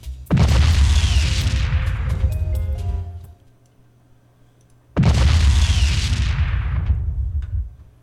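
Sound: explosion sound effect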